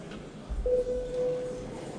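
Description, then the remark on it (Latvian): A vote-signalling bell in a parliament chamber, rung before the vote on adopting draft decision 133, sounds as a single steady, mid-pitched electronic tone, held for just under a second over a low murmur of background noise, with no talking. “Lūdzu zvanu.”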